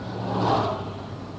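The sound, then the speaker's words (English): A car drives past, its engine noise and tire hiss swelling to a peak and then easing off as it moves away, with no voices over it. “you're listening on the tape, that was just a car went by.”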